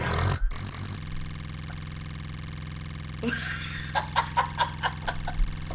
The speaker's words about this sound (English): Look, I'm doing cards. I'm shuffling cards. A lot. You ever shuffle 10,000 cards?